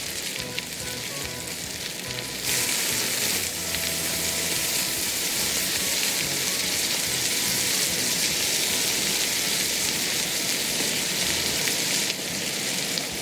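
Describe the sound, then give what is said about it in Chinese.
Loud, steady sizzling of green beans and pig's trotter meat stir-frying together in a wok, the beans added once the trotter meat is cooked through; a dense crackling hiss that swells louder after a couple of seconds and holds, with faint scraping of stirring and no voices. “一直炒到到那个猪脚肉它的熟透以后，再将四季豆把它放在锅里面，然后与猪脚肉一起拌炒。”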